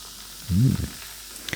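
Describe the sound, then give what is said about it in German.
A sparkling drink, its label picturing citrus fruit, peach, ginger, ginseng and dandelion, pours into a glass with a short low glug, then a soft, steady fizzing hiss and a couple of faint clicks. No one speaks. “So, ich gieße das hier mal.”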